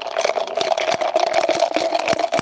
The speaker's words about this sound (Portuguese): Olha o barulho do gelo no copo do café.